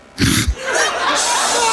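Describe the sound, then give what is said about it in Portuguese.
A man in São Paulo lets out a single loud, odd hiccup, an abrupt throaty gulp, followed by a long breathy, hissing exhale. “Em São Paulo, um homem estava com soluços estranhos.”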